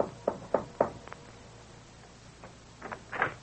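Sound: knock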